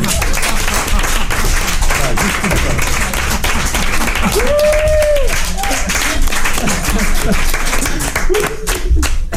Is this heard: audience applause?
yes